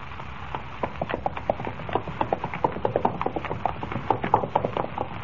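horse hoofbeats

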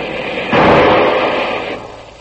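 rifle shot

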